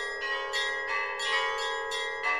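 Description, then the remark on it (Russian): Several cathedral bells in the town of Hamelin ring together in a rapid, overlapping peal, bright metallic strikes following one another every half second or so with a sustained shimmering hum beneath, steady and moderately loud. “Радостно звучат колокола на всех соборах.”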